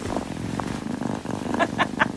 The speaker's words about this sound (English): That is one purry kitty. How warm and wholesome.